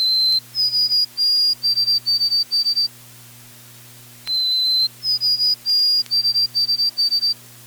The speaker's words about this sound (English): Except in fall, Northland white-throats sing a song in the rhythm pattern, Old Sam Peabody, Peabody, Peabody. White-throats north of the border change their tune to Oh Sweet Canada, Canada, Canada, Canada.